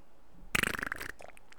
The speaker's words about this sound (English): So I'm you know, driving on my way to work to go pick up my friend, and I decided to gamble on a fart, and this happened.